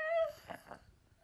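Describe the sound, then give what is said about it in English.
A sick girl lets out a short, high-pitched whine because she needs to cough, then two soft, breathy bursts follow before the sound trails off into quiet. “She's whiny because she has to cough.”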